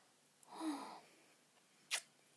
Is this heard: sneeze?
yes